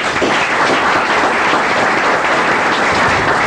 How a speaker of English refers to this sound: So if you can give her another round of applause, because she does a great job for us in the Delta Junction LIO.